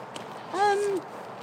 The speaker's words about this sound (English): Oh, no, it's a parakeet, look. Squirrel with a kazoo. There's a parakeet, or just a couple of parakeets up there. It was a very gravelly parakeet, if so.